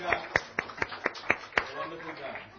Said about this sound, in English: Amen. Give Jesus a hand clap right now.